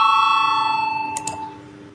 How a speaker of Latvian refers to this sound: Lūdzu zvanu, balsosim par 60. frakcijas neatkarīgie priekšlikumu. Lūdzu balsosim.